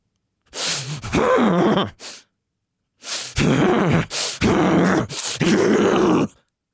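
A person forces out a rapid series of deep, heavy, stressful huffing breaths, a kind of breathing called a "guff huff", with a strained, grunting edge, loud, in two bursts separated by a short pause.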